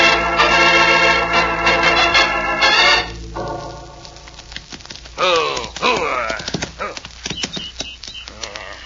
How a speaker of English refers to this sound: Oh, you're a fast horse. You're a good horse.